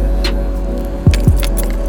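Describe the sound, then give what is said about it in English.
Car keys jangle in two quick metallic bursts, bright, over a steady low hum. “Find the car key.”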